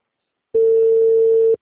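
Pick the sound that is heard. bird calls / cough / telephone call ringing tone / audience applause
telephone call ringing tone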